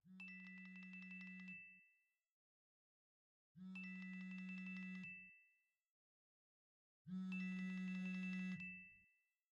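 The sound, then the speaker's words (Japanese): A phone ringtone rings three times in evenly spaced bursts, each a sustained electronic tone with bright harmonics lasting about two seconds, separated by short silences. Clear, with no talking. “あ、時間来たら電話来るんだった。”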